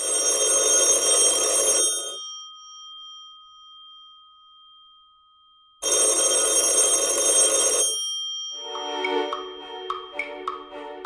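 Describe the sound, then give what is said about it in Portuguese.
A telephone bell rings at the house of Justice Minister Tancredo Neves in the early hours of 5 August, in two loud, clattering bursts of about two seconds each, separated by a long pause, followed by a few softer clicks and faint tones. No one speaks. “Foi no meio dessa tensão, com a possibilidade de golpe no horizonte, que o telefone tocou na casa do ministro da Justiça, o Tancredo Neves, na madrugada de 5 de agosto.”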